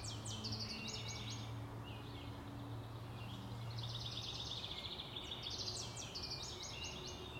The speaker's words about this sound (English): There goes a cardinal.